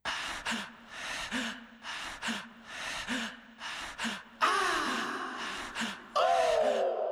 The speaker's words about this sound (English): The breaths in the song, the panting is, you know, waking the body asleep in a cold sweat and just being scared. You don't know what happened, you know, just what's going on in my life. So I wanted to put those breaths behind the dope fiend reference